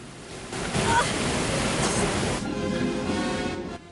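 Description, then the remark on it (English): Water rushes and sloshes heavily as a room inside a submarine floods and the water rises, a dense, continuous churning roar that swells slightly partway through and keeps going for several seconds. “The water in the room rises up past Christmas”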